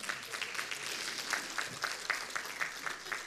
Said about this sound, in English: If you look around here at Rock of Ages, you know, this church is run by young people. Listen carefully. Yeah, come on, you better give them an applause.